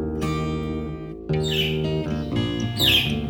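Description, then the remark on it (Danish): A caged blue pet budgerigar whistles and chirps in two bright, high-pitched flurries of warbling over a steady tonal background, with no one talking. “Men den fløjter, når den hører, det er mig, der kommer ind og åbner for dens bur.”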